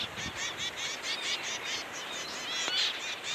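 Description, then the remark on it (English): A male zebra finch, a tiny Australian songbird, sings a quick, steady run of nasal, buzzy chirps and honking notes, fairly clear, with no voices present. “male zebrafinches, tiny Australian songbirds with smoky gray heads, stubby red beaks, orange cheeks, and black and white tails.”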